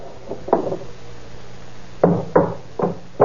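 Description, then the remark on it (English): Sharp hammer knocks striking a door hinge pin to take the hinges off a door: two quick taps, a pause, then a firmer series of four blows, fairly loud with no one talking. “Hey, what are you trying to do to that door? Taking off the hinges?”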